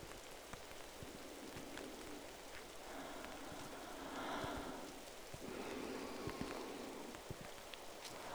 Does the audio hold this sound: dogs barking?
no